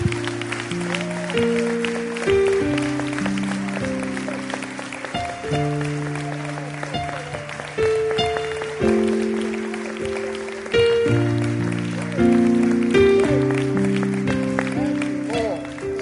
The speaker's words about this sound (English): Hallelujah. Let's give that hand clap of praise to Jesus.